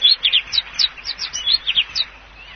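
Garden birds chirping in a quick, lively series of short, high tweets, clear, with no voices.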